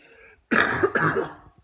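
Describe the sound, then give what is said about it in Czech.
Two harsh, rough coughs in quick succession, fairly loud, the second following right after the first, from a bad cough caused by dust, with no talking around them. “Mám hrozný kašel z prachu, ale fakt strašný úplně.”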